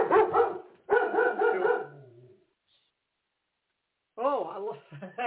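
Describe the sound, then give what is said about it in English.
A dog barks in a few loud, rapid bursts, falls quiet for a couple of seconds, then starts barking again. “Oh, I see my, apparently the dog here wants to have a say on my program and wanted to be, you know, just have a little something to say.”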